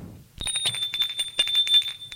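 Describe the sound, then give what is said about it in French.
A doorbell at the front door rings out sharply after a brief silence, a bright, high metallic tone sustained for about two seconds with a rapid rattling, trilling pulse throughout. “L'on sonne à la porte d'entrée.”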